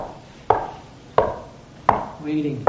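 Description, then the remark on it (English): Four sharp knocks on a door at a slow, steady pace, each a crisp hard rap. A faint voice briefly murmurs between the last two. “He's standing outside this door, knocking.”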